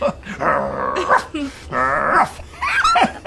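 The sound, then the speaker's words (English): A dog barks and growls in a few loud, drawn-out snarling bursts separated by brief pauses, sounding agitated and aggressive. “Give me the dog, sir, please. Look out! You bite you!”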